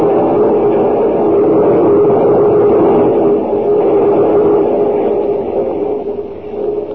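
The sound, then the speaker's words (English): A moving passenger train rumbles steadily and loudly, a dense continuous roar with a faint hum running through it, easing slightly toward the end. No one speaks. “Well, we've been through every car in the train.”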